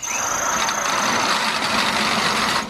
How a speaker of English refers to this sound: Nurse, the drill, please. Thank you. Right, this will just take a second. But it's enormous.